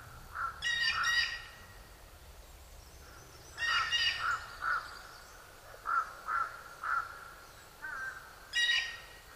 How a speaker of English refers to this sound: Of course, on a quiet day like this, crows don't have Lost Valley to themselves. Here's a blue jay related to the crows, who perhaps is tired of all the crow species back and forth.